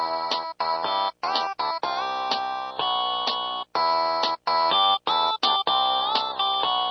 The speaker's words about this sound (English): it's become one of the top ringtone downloads on Roman cell phones.